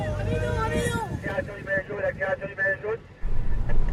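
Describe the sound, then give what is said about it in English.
Steady low engine rumble fills the inside of a moving car near the end of a race stage, loud and continuous, while a voice talks over it and the noise briefly dips near the end. “Thank you for having us in your car.”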